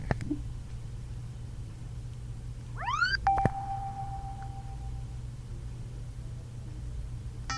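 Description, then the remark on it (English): A short rising electronic chime with bright harmonics as headphones power on, followed by brief beeps signalling they are paired with an iPhone and a steady mid-pitched tone that fades out, all fairly quiet over a constant low hum with no talking. “Now, as soon as I heard the startup sound, I took my finger off the power button, and you heard the beep beep, and that means it's now paired with my iPhone.”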